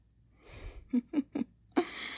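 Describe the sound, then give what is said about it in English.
Heavy, labored breathing: a breathy exhale, then three quick voiced gasps in a rapid panting rhythm, followed by a longer, forceful rush of breath. “You were breathing pretty heavily there, mister.”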